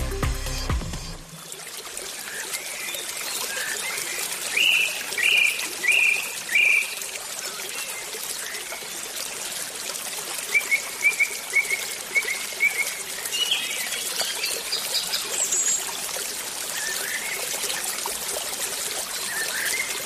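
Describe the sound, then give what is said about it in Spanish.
Birds chirp in short repeated bursts over the steady rush of a babbling stream, the water's broad hiss filling the background throughout with no voices present. “Bueno, pues suena ya nuestra música de pajaritos y arroyos y bueno, naturaleza en estado puro.”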